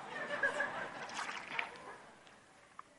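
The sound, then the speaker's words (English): Water pours and sloshes steadily for a couple of seconds, then tapers off, with a faint clink near the end. “Mind if I have some water?”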